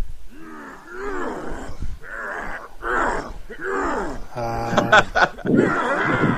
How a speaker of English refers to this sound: Just a monster grunting?